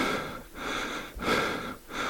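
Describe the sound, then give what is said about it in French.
Heavy, panting breaths of a person out of breath from a sudden, brutal physical effort, rasping in and out in a steady rhythm of roughly three breath cycles, with no talking. “J'en profite donc pour retrouver une contenance et calmer discrètement mon essoufflement provoqué par l'effort brutal.”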